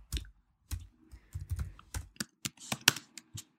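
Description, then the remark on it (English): Quick, uneven keystrokes clatter on a computer keyboard, a dozen or so sharp clicks in bursts with brief pauses, fairly quiet, with no voices, as someone types "sexy apron" while searching Etsy.com for an apron. “I'm typing sexy apron.”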